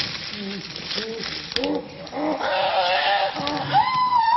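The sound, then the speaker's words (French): Chimpanzees screaming and calling over one another, with short wavering hoots giving way to loud, high, rising shrieks near the end, a continuous noisy chorus without pause. “Ce qui est assez incroyable chez les chimpanzés, c'est que quand on les entend crier comme ça, on a l'impression qu'ils sont violents.”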